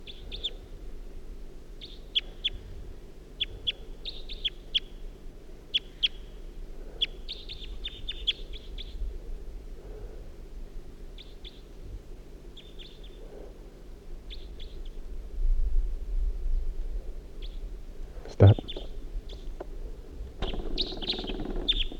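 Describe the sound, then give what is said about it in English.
Repeated short, high chirping calls from a wild bird drawn in by decoy calls come in bursts over a low rumbling background, with a sharp knock partway through and a single spoken word near the end. “The calls of the decoys have aroused the attention of another wild bird who's coming in.”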